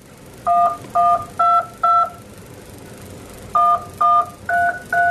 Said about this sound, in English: These are two robots and they're moving around, beeping, but these beeps, they're subtitles that represent the words.